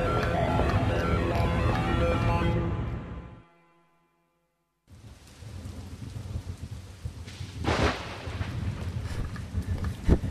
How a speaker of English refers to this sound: Sir, intelligence reports sounds of mass flooding advancing underground from the river area.